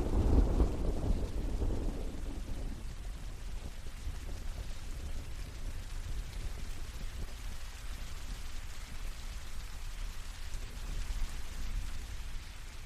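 Steady rain hisses evenly throughout on an island, with a deep rumble of thunder rolling through at the very start before fading. No voices, just the constant wash of falling rain.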